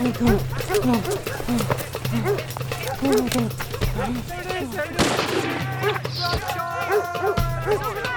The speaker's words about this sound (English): God, that's the cannon.